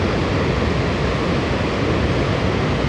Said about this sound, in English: Just the waterfall's crazy today.